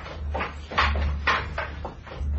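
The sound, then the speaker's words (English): A door is opened with a run of four or five rhythmic creaking, scraping bursts over a steady low hum, moderately loud, with no one speaking. “Open the door.”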